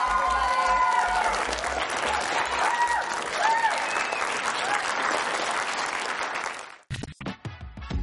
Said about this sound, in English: So one more time, a big round of applause for this guy.